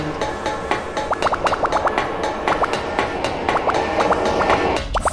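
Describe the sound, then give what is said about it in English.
A video game train, steered by the player with the left and right keys, rolls along its rails with a steady rumbling hiss and quick, rhythmic clickety-clack, while bursts of short chirping tones repeat over it. No one speaks. “You just center the train and it will automatically let you.”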